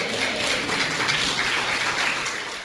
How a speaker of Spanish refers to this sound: No los veo muy convencidos. Ni en el aplauso me convencieron.